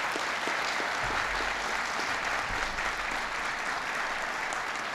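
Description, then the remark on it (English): Steady, dense applause from a large audience for Gene Sperling, newly appointed director of the National Economic Council, fills the whole stretch, a continuous wash of many hands clapping at even loudness without a break. “Give Gene a big round of applause.”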